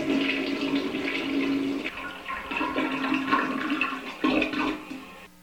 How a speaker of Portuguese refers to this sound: Mas, como estavam acostumados a fazer as necessidades no mato, usavam os vasos sanitários para limpar azeitonas, que eram colocadas em uma rede e agitadas pela pressão da descarga d'água.